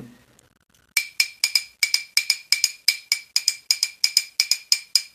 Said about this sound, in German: Du bist ja wahrscheinlich da auch dran gegangen und hast überlegt, in welcher Art kann ich damit Geräusche machen? Was machst du mit einem Kugelschreiber und einer Wasserflasche?